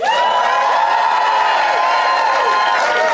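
The Phoenix audience applauds and cheers loudly and steadily to vote, with high whoops and shouts rising over dense clapping throughout, no break in the noise.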